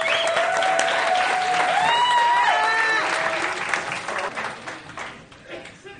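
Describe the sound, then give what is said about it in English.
Loud, sustained applause from a crowd at the Miss Southeast Leather Fest contest for a competing contestant, with whoops and a few high cheers riding on top, tapering off toward the end. “Big round of applause for”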